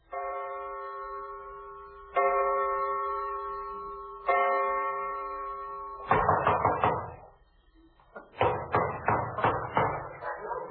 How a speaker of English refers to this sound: Have you ever been awakened in the middle of the night by some character pounding at the door and hiccuping with a British accent? Well, I have.